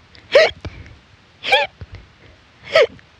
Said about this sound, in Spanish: ya tenía hipo.